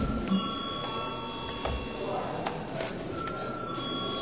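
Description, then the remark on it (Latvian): A chamber bell rings steadily for several seconds in the Saeima, the Latvian parliament, before the deputies' attendance registration. It is a sustained bright metallic tone with faint clicks and shuffling underneath and no clear talk over it. “bet tagad lūdzu zvanu.”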